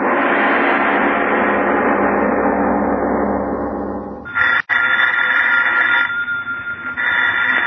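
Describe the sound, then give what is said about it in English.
After a few seconds of loud, dense rushing sound, an old-fashioned telephone bell starts ringing loud, one long ring followed by a short pause and a second ring. “Miss Goddard, answer the phone, please.”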